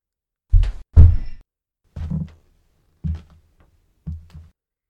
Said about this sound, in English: For a moment, you thought the trapped thing was back. And then you thought the footsteps were down there in the subcellar with you.